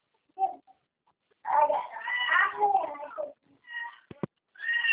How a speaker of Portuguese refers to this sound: Bota o gato no som.